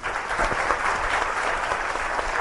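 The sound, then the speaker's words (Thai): An audience breaks into steady applause, a dense, even wash of many hands clapping at a fairly loud level throughout, with no voices standing out above it, applauding the attendees from the western region. “ไม่เพียงเท่านั้นนะคะวันนี้เรายังมีพี่น้องจากทางภาคตะวันตกค่ะขอเสียงตบมือให้พี่น้องจากภาคตะวันตกด้วยค่ะ”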